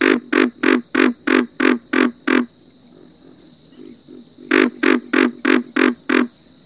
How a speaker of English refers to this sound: The next frog we'll listen to is the pig frog. Pig frogs sound very much like the grunting of a pig, so it's easy to remember.